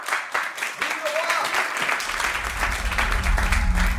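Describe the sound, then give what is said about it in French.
Moderate applause from an assembly for Mirabeau, a steady patter of many hands clapping at even loudness, joined partway through by a low rumble of murmuring voices. “Mirabeau est modérément applaudi.”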